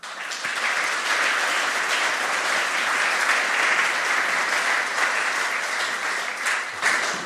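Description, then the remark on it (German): Sustained applause from a crowd at a gathering at the Neukirch, a dense steady wash of many hands clapping at even loudness for several seconds before tapering slightly at the end, with no voices standing out. Everyone claps together to thank the helpers who lent and set up the tables and benches. “Dürfen wir mal für alle gemeinsam noch klatschen.”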